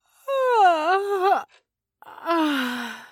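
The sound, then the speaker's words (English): A long, drawn-out yawn with a voiced, sliding pitch, followed after a short pause by a second, breathier yawn that trails downward, both fairly loud with no talking. “Get all your yawns out before it's too late.”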